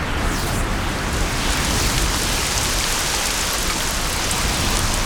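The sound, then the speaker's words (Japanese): A dense Gral rain pours down in a steady hiss, loud, with countless drops drumming at once and no pause across the whole stretch. No voices can be heard. “これはなんと濃密なグラルの雨。”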